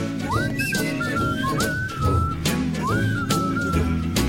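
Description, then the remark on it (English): A person whistles a sliding, tuneful melody in clear, sustained notes over a steady, full musical backing that plays throughout, on a broadcast of 88.3 WRCT Pittsburgh radio. “This is me whistling, by the way.”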